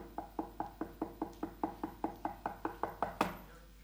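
Rapid, steady knocking on a door, around fifteen evenly spaced raps in quick succession, clear, ending with one sharper, louder bang before falling quiet.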